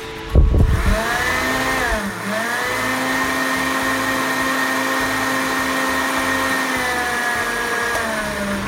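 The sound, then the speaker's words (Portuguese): A blender whirs steadily at high speed, mixing dissolved carrot with orange juice, cornstarch and sugar, a loud continuous motor drone with a brief dip in pitch early on before settling into an even, sustained hum. No voices. “Vamos bater de novo. Deixa bater bem, para tudo ficar bem incorporado e a gente ter certeza que não tem nenhum pedacinho aqui empelotado.”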